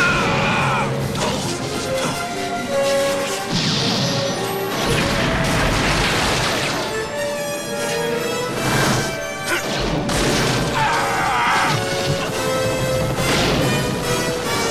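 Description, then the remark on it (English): Loud, chaotic explosions erupt on a rooftop behind a running man as a minigun fires from a helicopter, blasts and crashing debris bursting out one after another over a dense, roaring backdrop, with several sharp eruptions standing out amid continuous rumbling and clattering. “Peyton runs for his life along the different levels of the roof, spurred on by explosions that erupt inches behind him.”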